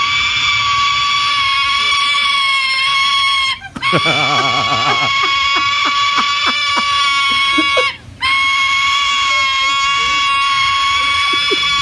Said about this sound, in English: Yeah, and this juvenile silver-crested cockatoo is hungry, and this is the sound they make when they want to be fed.